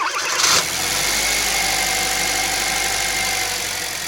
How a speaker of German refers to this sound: Das ist natürlich ein Auto mit Verbrennungsmotor.